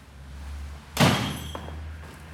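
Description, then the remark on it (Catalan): A front door swings shut with a single solid thud and a brief rattling decay as Merlí enters the house, followed by a couple of soft knocks, over a steady low background hum. “En Merlí entra a casa.”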